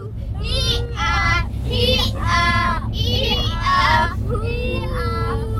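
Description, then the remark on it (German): Three children shout and squeal in overlapping, high-pitched bursts of play inside a tour bus, taken to escape bad weather, over a steady low engine rumble that persists throughout. “Wir sind ein Stück gefahren, haben die drei Kinder drin, so hört sich das an.”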